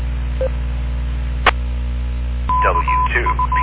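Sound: telephone keypad dialing tones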